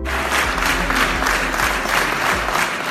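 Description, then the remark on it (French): Loud, sustained applause from a crowd celebrating the victory of the Auray-Ville citoyenne list in Auray on 28 June 2020, dense steady clapping filling the whole stretch with no pauses and no voices standing out. “Très applaudie, la victoire de la liste Auray-Ville citoyenne le 28 juin 2020 marquait aussi un changement d'étiquette politique et un changement d'atmosphère à l'hôtel de ville.”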